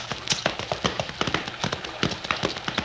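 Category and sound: animal, horse hooves clip-clopping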